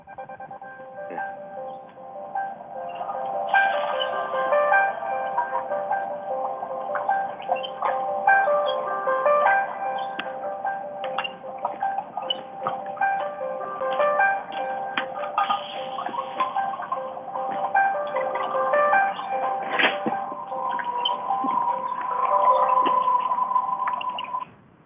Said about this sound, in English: That was my phone reminding me that we're doing a call right now.